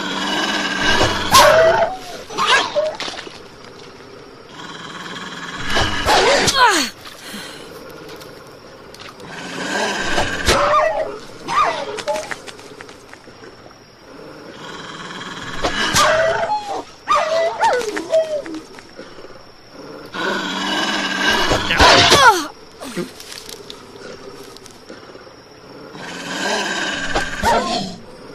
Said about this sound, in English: So we're gonna fight wolves. So I think you have to hit them when they growl.